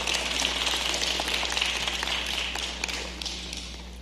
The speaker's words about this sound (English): Let's give the Lord a hand clap of praise this evening.